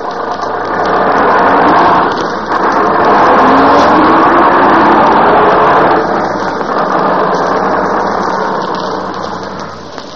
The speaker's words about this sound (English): Here's the bus. We're going to the museum.